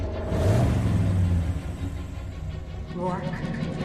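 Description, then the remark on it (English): The engine of a white van, stopped just feet from a woman, runs with a steady low rumble, swelling briefly as if revved before settling into an even idle, with faint muffled voices in the background. “Rourke stops the van just feet from her. Turn off the engine and step out.”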